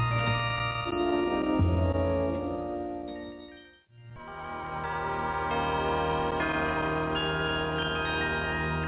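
A festive melody rings out on bells, with sustained, overlapping chiming tones over a steady low accompaniment; the music briefly fades to near silence midway before resuming at full volume.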